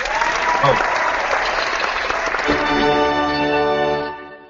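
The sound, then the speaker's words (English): A loud burst of crowd applause and cheering sound effect, sustained clapping with voices, then a bright tonal swell taking over before everything fades out at the end. “I was waiting for my special effects with the crowd chair.”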